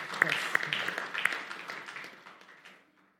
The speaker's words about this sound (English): Good evening, church. Yeah. A clap. Let's do a clap. Yes. Yes.